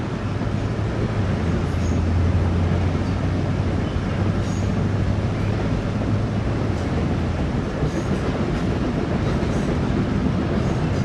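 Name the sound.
train speeding past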